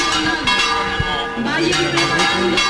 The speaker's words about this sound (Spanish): Bueno, sonar de campanas